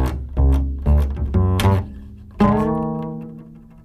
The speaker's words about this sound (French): Bon ben voilà, comme ça on a de la vraie contrebasse là. C'est magnifique.